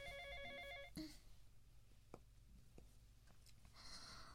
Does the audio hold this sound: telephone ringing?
yes